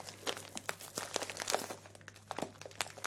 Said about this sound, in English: So I bought this bag of wax flakes. I remember at the time the bag was really tingly, crunchy and nice.